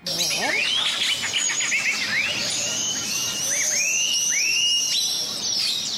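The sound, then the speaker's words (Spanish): Many birds call and chirp at once outdoors in Santiago del Estero, a dense chorus of rising whistled notes and quick tweets layered over a steady background hiss, fairly loud throughout. “Escuché muchas aves y también escuché, o sea, cómo las personas también se pueden conectar con las aves.”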